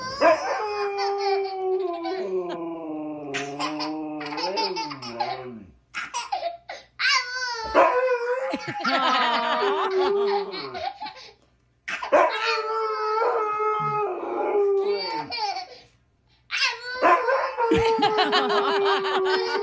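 A toddler and a husky howl together in long, wavering, rising and falling cries, trading and overlapping in several bursts with brief pauses, loud, mixed with bits of giggling.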